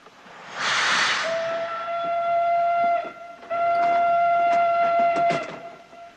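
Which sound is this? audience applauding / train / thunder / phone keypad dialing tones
train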